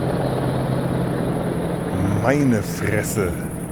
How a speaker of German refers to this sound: Auch wirklich zwei riesigen Riesenbrocken von Hubschrauber, die da gerade über mir wegfliegen. Ziemlich tief.